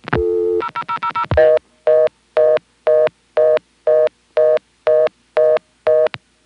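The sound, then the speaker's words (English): A telephone line gives a short steady tone, then a quick burst of keypad tones as a string of zeros is dialed in a row, followed by a long, evenly paced series of about eleven identical loud beeps, with no voices. “I tried dialing a bunch of zeros in a row.”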